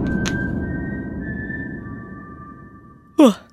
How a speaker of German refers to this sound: Absoluter Gänsehautmoment, wenn man dieses Pfeifen vom Sporttölpel hört. Mir geht's zumindest so. Hier, ich zeig's euch nochmal.